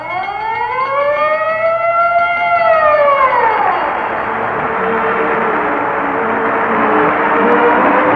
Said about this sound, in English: And remember, whenever you hear the siren and bell, think of Texaco.